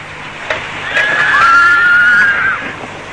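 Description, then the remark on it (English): A single whinny from a horse at a stable, high-pitched and wavering, lasting about a second and a half. It stands alone with no talking. “What do you do at the stable? I exercise the horses.”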